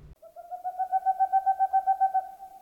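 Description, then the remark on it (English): An owl calls alone in a quick, steady run of wavering hoots that blur into a trill, swelling slightly then fading, heard clear against a quiet background. “If there's a month during which we should not be seeing owls all over the place, it's National Blue Jay Awareness Month.”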